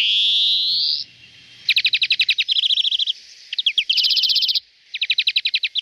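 A European greenfinch sings up close and alone: a drawn-out nasal wheeze, then bursts of rapid, bright trills and twittering rattles with short pauses between phrases.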